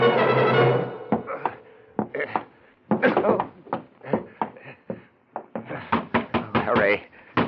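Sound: knocking on a door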